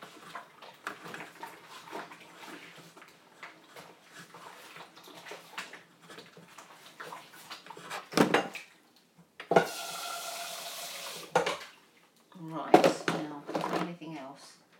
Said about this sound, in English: We had some noodles earlier, so I'm just going to wash the saucepan. I don't put that in the dishwasher. saucepans don't go in the dishwasher. They take up too much room, so I always do have to wash those.